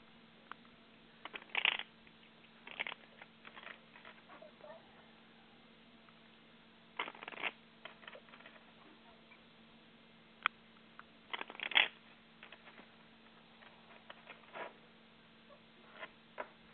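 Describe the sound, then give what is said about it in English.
Tarot cards being shuffled for a caller's reading in soft, papery bursts of riffling and flicking, separated by quiet pauses, with a faint steady hum underneath and no talking. “Yeah, the longest part is shuffling these cards.”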